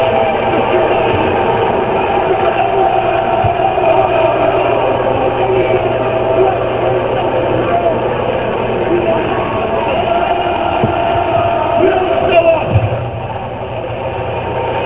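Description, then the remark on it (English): A large arena crowd boos a man loudly and without pause, a dense, steady roar of many voices that holds for about twelve seconds before easing slightly at the end. “They are booing him out of the building is what they're doing.”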